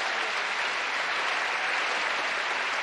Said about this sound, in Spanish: Un aplauso para María Elena, claro. Claro.